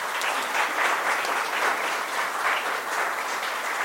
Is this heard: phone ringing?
no